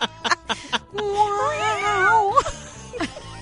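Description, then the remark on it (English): A sound-effect cat yowl, drawn-out and wavering, rises and bends for about a second and a half, loud, framed by short clicks and thumps before and after. “Who let in the dead cat?”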